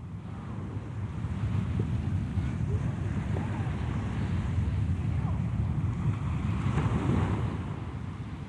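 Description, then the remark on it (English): Sea waves on the Straits of Dover at night, at full tide, wash steadily onto a shore in a dense, rumbling roar, swelling slightly now and then, with a windy hiss over the top and no clear voices. “The sea is calm tonight. The tide is full.”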